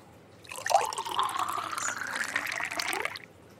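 Wine pours steadily into a glass for about three seconds, a gurgling liquid stream whose tone rises slightly as the glass fills, then stops. No one speaks.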